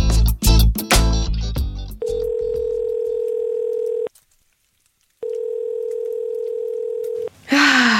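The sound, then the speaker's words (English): A burst of dialing clicks and beeps, then two long, steady ringback tones heard down the line, separated by a silent pause, as a phone call to the National Youth Service rings without being answered. “Boy, not even sound like nobody can answer this phone.”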